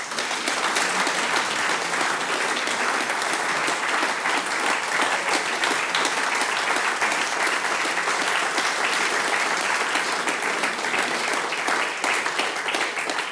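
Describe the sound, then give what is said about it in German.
Sustained applause from an audience, a dense, steady wash of many hands clapping at even loudness for over thirteen seconds, with no talking over it. “großen Applaus bitte.”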